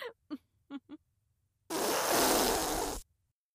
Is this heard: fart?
yes